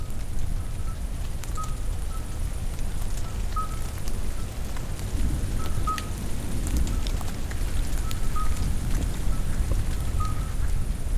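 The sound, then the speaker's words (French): At the end of a thunderstorm at night, steady rain patters throughout while toads call in short, tonal bursts that repeat every second or so, their chorus sitting just above the constant hiss of falling water. “Et le bal du chant des crapauds.”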